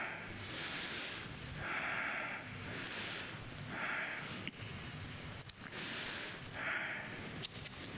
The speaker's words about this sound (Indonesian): Saudara jangan takut saya ngos-ngosan, gak akan putus saudara sekalian ya.